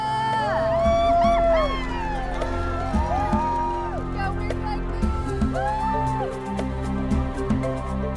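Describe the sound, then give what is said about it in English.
A crowd on a riverbank cheers and shouts continuously as 108 boats start a race at 7 p.m., many overlapping voices rising and falling in pitch with whoops over a steady low rumble, loud throughout the whole stretch. “Crowds cheered on the bank.”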